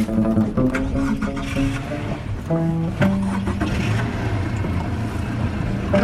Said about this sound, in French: Allez, je démarre le bateau.